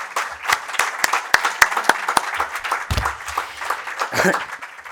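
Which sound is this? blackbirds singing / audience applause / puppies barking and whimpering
audience applause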